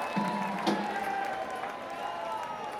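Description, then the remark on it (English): Audience applause fills the space, a steady wash of many hands clapping at moderate volume, with some crowd noise mixed in throughout. “Applause for Jeff Waffle for being a good team player right there.”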